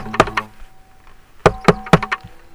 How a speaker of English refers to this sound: What the hell is that sound? What comes around? Now knocking at your door.